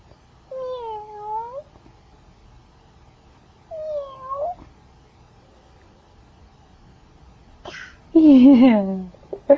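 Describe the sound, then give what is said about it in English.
A voice imitates a cat's meow three times, each a drawn-out, wavering mew separated by pauses, with the final one louder. “And a kitty?”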